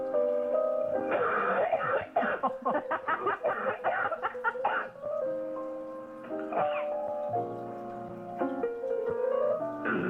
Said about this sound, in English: I'm not super sick, but I am getting over the flu, and I have a bit of a cough. Let me see if I can get one up for you.